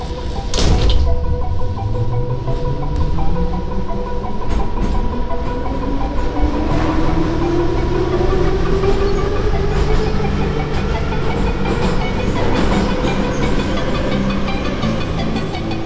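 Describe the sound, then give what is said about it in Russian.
A metro train pulls away after the doors close, its motor whine rising steadily in pitch as the carriage accelerates, with continuous loud rumbling and rattling of wheels on track filling the whole stretch. “Я в метро отлюблено, до Красносельской перехожу с ветки на ветку, королева все подземки, мой дворец самый большой на свете, еду по нему в вагоне, вернее на карете”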